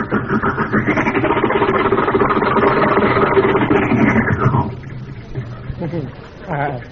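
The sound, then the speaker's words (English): An old car engine runs with a steady, rough, buzzing rumble for several seconds, then cuts back sharply as the stiff gears shift, leaving a lower idle with a voice briefly speaking at the end. “Gears are a little stiff, you know. New car.”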